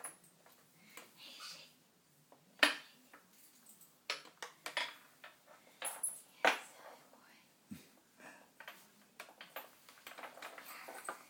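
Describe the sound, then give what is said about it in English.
Two dog leashes, Sean's and River's, clink and rattle against the chair Sean is in, in quiet, irregular bursts of light metallic taps, with a few sharper clanks standing out over a soft background hush. “Sound you hear Sean's leash against the river's leash against the chair Sean's in.”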